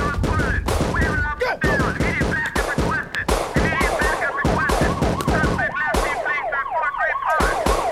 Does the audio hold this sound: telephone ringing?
no